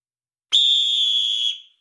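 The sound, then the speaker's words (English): A single loud, shrill whistle blast, held steady for about a second before cutting off with a brief fading tail. It stands alone, with no voices around it. “The whistle may have blown on some of these teams, but it's time for PWP.”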